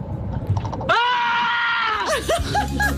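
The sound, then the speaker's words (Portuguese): A person whose windshield was hit by a rock on the IC19 road lets out a loud, sustained scream lasting over a second, followed by a few shorter, wavering cries, with murmuring voices and background noise underneath. “Bem, mas este berro veio de foi um sentido. Veio de uma pessoa que levou com um pedregulho.”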